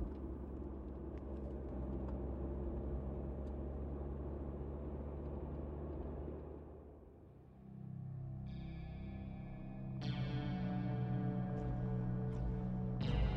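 car driving away

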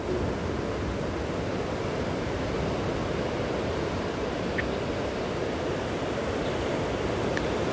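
ocean waves

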